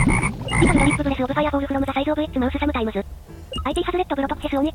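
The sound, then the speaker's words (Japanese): A video game creature, a small orange fire-type frog, lets out a loud croaking cry, a string of warbling, buzzy electronic croaks with a brief pause partway through, opened by a few short beeping tones. “ラブログ is a small orange flop. うん、カエル。”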